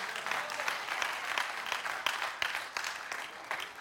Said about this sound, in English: that's bold, and we hear everybody clapping